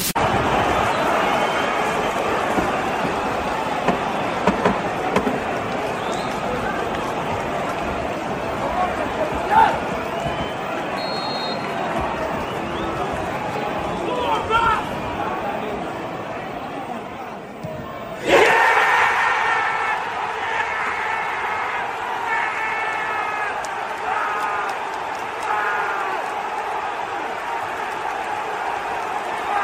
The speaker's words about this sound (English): Let's just sit back and bask in this. You'll hear some crowd noise, and then you'll soon realise what's happening.